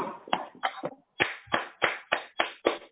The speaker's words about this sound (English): Can we give him a round of applause, honorable members?